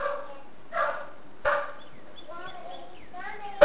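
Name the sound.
dog barking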